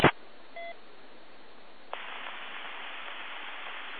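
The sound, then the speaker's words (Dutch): A short two-tone electronic beep sounds over a hiss of radio static as an amateur radio repeater (relay) briefly drops out during a radio net, then the noise jumps louder and steadier as the carrier comes back. No one speaks. “Kijk, het relais viel net even af. Daar is een piepje.”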